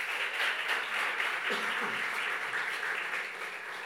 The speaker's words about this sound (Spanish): ¿Me le dan un aplauso a él, por favor?